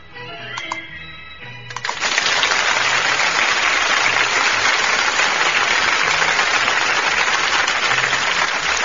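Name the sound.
applause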